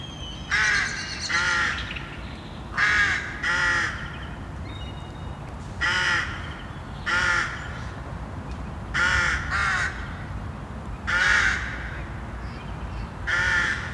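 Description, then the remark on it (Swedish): Harsh, repeated caws from a colony of five to eight rooks in their nests in Lund, Sweden, calls coming in short bursts of one to three every second or two, over a steady outdoor hum. “Det går ju inte att dra någon annan slutsats än att de är oerhört sociala, de här fåglarna. Kolonihäckande, och de pratar hela tiden.”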